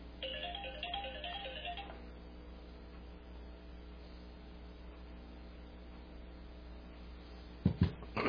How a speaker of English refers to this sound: Had a phone call and I forgot to turn my ringer off. I'll do that right away. Sorry about that.